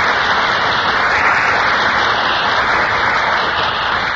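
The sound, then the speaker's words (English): A steady wash of audience applause for two stars, Marlene Dietrich and Fred MacMurray, entering from the wings at a radio broadcast of Desire, many hands clapping together in a dense, continuous roar that holds at an even loudness throughout, with no voices standing out. “That burst of applause is for our two stars who just entered from the wings.”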